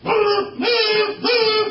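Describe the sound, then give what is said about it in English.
A voice imitates blaring horns with three drawn-out, steady, mid-pitched blasts in quick succession, each starting with a short upward swoop, loud and buzzy with no other sounds. “They're going to blow their horns. That nauseating sound, we got to hear that for a while.”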